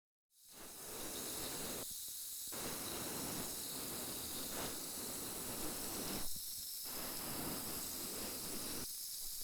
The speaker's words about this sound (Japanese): 次はこっちも炭酸綿棒で細かいの取り除いていくわ。